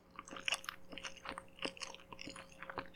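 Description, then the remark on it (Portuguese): Someone chews and eats a whole chicken with quick, irregular crunchy bites and wet smacking sounds, moderately loud and without any talking, over a faint steady hum. “E comeu a galinha toda cheia de alegria.”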